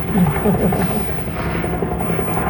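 A helicopter passes overhead, its low, steady rotor drone filling the air as a continuous rumble at moderate loudness throughout.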